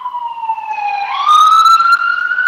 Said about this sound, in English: oh sorry, I got a siren coming by here.